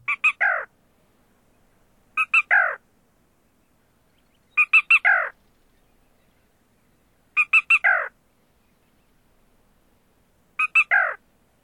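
A black rail's high-pitched kiki-doo song, repeated five times at steady intervals of about two seconds: two or three quick sharp notes, then a slurred downward note, clear and alone against silence.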